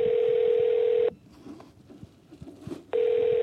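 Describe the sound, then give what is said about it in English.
Telephone dialing tones from phone calls to officials in different parts of the Canadian government: a steady electronic phone tone holds for about a second, breaks off into a gap of faint clicks and rustle, then sounds again, fairly loud, with no talking. “I started making phone calls to officials in different parts of the Canadian government.”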